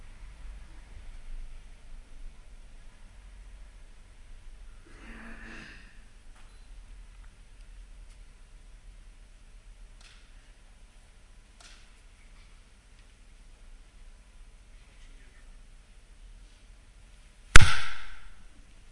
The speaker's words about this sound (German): Bitte erschreckt nicht, bevor es mit der Predigt losgeht, muss ich einmal in die Hand klatschen, um Videoaufnahme zu synchronisieren mit dem Ton.